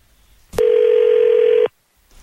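A steady, unbroken telephone dial tone sounds for about a second while calling a caller back, loud and even in pitch, starting and stopping abruptly with a click. No one speaks.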